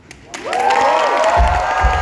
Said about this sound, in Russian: Все аплодисменты тебе. Спасибо за такой стих.